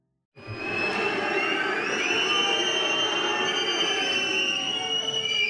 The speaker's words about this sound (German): Das hier hören Schauspieler, Sängerinnen, Regisseure und all diejenigen, die ihre Kunst vor Publikum zeigen, nicht gerne. Pfiffe und Buhrufe, dem Publikum hat's da ganz offensichtlich nicht gefallen.